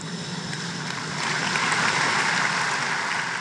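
Thin, scattered applause from party delegates during a speech by Angela Merkel, a steady patter of clapping that swells slightly after the first second and holds at a moderate level, with no voices.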